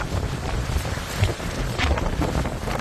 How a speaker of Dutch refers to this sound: En toen was het 9 augustus 2022. Luc hangt in de lucht, in Spanje, samen met andere piloten, als het plotseling ontiegelijk hard begint te waaien.